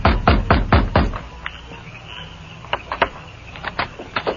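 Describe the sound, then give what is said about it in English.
Heavy fists pound on the back door of a sheriff's office, four loud, rapid thuds, then a pause and a second round of lighter, quicker knocks. Forceful, with no voices. “Then he pounded on the door.”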